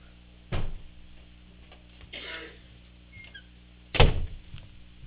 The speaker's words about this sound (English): I'm just going to close this door here.